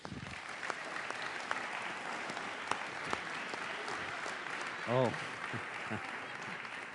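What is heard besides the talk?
audience round of applause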